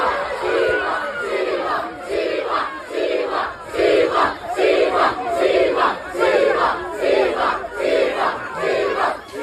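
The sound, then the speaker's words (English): A large crowd in Papua New Guinea chants the name of rugby player Micah Siva in loud, rhythmic unison, the two-beat call repeating steadily about once a second with a roaring crowd wash underneath. “We're used to hearing that in the crowds at Parramatta Stadium as he goes over for his famous tries, but that was there in PNG.”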